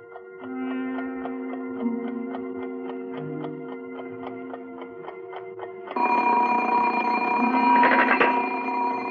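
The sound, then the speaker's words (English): A steady mechanical ticking with a faint tonal hum gives way after about six seconds to a louder, continuous metallic ringing of an alarm clock bell that keeps going to the end. “Oh, I'm sorry, operator. It's my alarm clock.”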